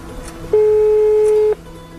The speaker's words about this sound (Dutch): We proberen hem te bellen.